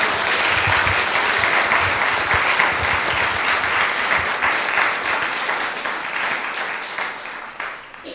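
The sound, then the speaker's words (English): Sustained applause from an audience, a dense steady wash of many hands clapping at once, holding loud throughout before easing slightly toward the end. “Let's give them all another big round of applause.”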